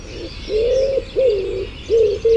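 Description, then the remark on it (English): Soft, hollow wood pigeon cooing, four or so rounded hoots in a steady rhythm, moderately loud, with a faint airy background hiss. “and my Dawn Chorus bird impression is the wood pigeon.”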